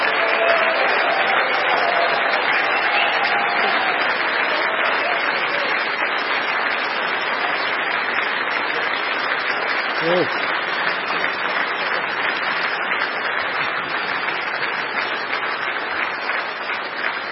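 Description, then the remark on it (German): Sustained, loud applause from an audience for guest Alice Weidel at an evening event, a dense steady clatter of many hands clapping that holds for the whole stretch, with a brief voice rising faintly under it midway. “Und jetzt noch einmal einen ganz herzlichen Applaus für unseren Gast hier.”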